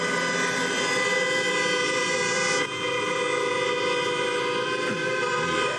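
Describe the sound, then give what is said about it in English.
A traffic jam full of honking car horns, several sustained, overlapping blasts blaring loudly and continuously over a low engine rumble, with a brief dip partway through. “Or you heard the sound of a traffic nightmare in your head.”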